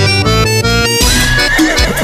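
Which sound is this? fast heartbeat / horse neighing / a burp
horse neighing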